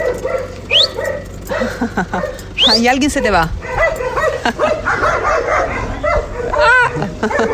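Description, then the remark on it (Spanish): Guard dogs bark and yip repeatedly, some calls rising into high whimpering yelps, fairly loud, while people talk over and between the barks. “Bueno, tienes buenos perros, ¿eh?”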